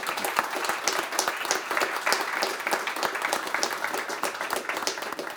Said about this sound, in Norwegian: Dere fortjener en applaus og en strålende